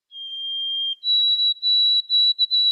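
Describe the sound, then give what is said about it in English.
A sparrow with a white throat patch and a yellow spot between bill and eye whistles its 'Old Sam Peabody' song alone: one long, pure, high note, then a slightly higher note repeated in several quick, clear phrases. “And a beautiful song that sounds like Old Sam Peabody, Peabody, or if you're in Canada, they say, "Oh my Canada, Canada."”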